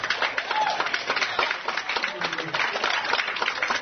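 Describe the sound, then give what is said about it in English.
An audience claps together, a dense, steady patter of many hands that holds at an even, fairly loud level throughout, with some murmuring voices mixed into the applause. “One more time, can you clap those hands for me?”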